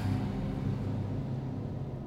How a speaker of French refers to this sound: La voiture, elle fait un bruit bizarre. J'espère qu'elle va pas nous lâcher.